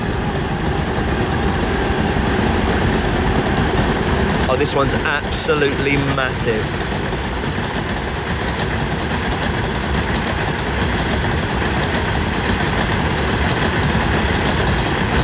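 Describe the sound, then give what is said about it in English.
A train rumbles past on a rail line right next to a hotel, a loud continuous roar of wheels and carriages filling the whole stretch, with brief clattering in the middle and a man talking over it. “Oh, he's coming back. Oh, and it's that same little train, but now he's got...”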